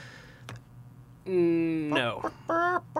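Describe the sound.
A chicken clucks and squawks loudly: a drawn-out, wavering bawk, a rising screechy cackle, then one shorter squawk. Faint clicks and a low hum come before it.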